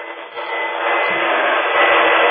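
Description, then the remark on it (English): A vacuum cleaner runs steadily while someone vacuums a front room or living room, a loud, continuous whooshing roar that holds an even pitch and swells slightly partway through, sounding thin and muffled as if heard over a telephone line. “and that's not the thing to do, vacuuming her front room or her living room while she's waiting to get on the air.”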